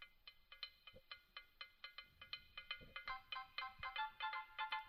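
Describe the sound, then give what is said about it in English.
A bright, bouncy ringtone melody with a calypso feel plays from a phone, quick repeated plucked notes in a steady rhythm that grow busier and louder toward the end, with no talking. “It's got a little calypso to it.”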